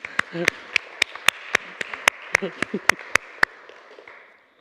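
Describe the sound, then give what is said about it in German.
A short burst of applause from a small group for the experts: sharp, distinct claps in a quick, fairly steady rhythm, with brief murmured voices underneath, tapering off into quiet after about four seconds. “Vielleicht einen kurzen Applaus für unsere Experten.”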